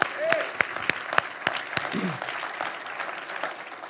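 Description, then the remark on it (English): Audience applause in a church, given for the godly teachers of its school: a steady, dense patter of many hands clapping at moderate volume, with a few sharper individual claps standing out and faint voices briefly mixed in. “Give them a hand.”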